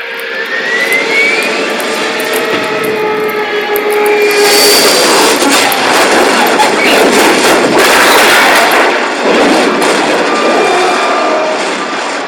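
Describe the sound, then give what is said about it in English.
A warplane at 2,000 feet dives onto a target as its engine gives out, roaring loud, a thin whine over the straining, failing engine giving way to a harsh, sustained rush of noise that swells and surges throughout, with no voices. “Drop on them, plane and all. We're diving on the first one. Now the engine's gone.”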